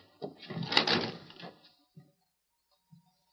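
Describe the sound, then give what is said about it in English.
An unlocked wooden cabin door is opened by a sheriff; it scrapes and rattles open in one drawn-out sweep lasting over a second, followed by two soft, separate thuds in the quiet afterward. “Open the door, Sheriff.”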